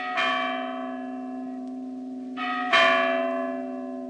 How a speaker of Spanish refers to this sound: Se amarraba el cabestro al dedo del pie mientras dormía y al escuchar la hora en el reloj de la iglesia empezaba a mover las campanas con tanta maestría como si lo estuviera haciendo con las manos.